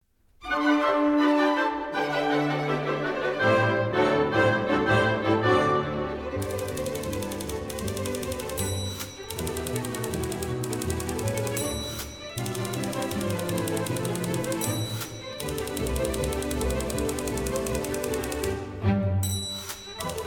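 A short, lively orchestral piece with an actual typewriter used as percussion, its rapid clacking keystrokes and occasional bright bell dings riding over brisk strings and a steady bouncy rhythm.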